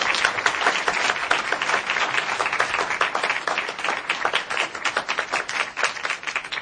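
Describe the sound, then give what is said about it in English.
An audience applauds steadily, a dense wash of many hands clapping at a constant, fairly loud level for several seconds without any voices. “So please applaud them both.”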